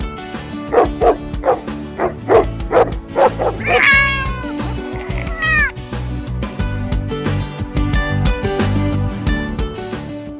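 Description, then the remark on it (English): A dog barks in a quick run of about half a dozen sharp yips, followed by a couple of high, drawn-out cat meows, all over a steady musical background, on the DZUP 1602 radio show Kwentuhang Pets at Iba Pa. “Ngayon, meron na naman tayong guest na doggy.”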